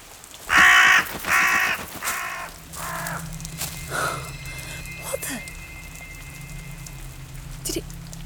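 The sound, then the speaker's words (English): A crow caws twice, loud and harsh, then gives several fainter caws that trail off, over a steady low rumble of background noise. “Mr. Crow?”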